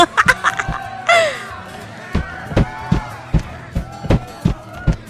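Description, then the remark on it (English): Cowgirl boots stomp hard on a wooden bar top in a steady run of loud thuds, about a dozen in five seconds, with faint laughter and murmuring voices behind them. “We are stomping right over you, just like we will fucking walk all over you.”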